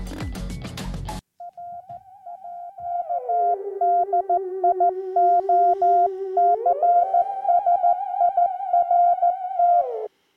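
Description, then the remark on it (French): Morse code from Radio Sessert: a steady mid-pitched radio tone keyed on and off in short and long beeps, over a lower whistling tone that slides down, holds, then rises again, after a brief burst of static. “Alors, pour les plus curieux, le morse que vous entendez, c'est Radio Sessert.”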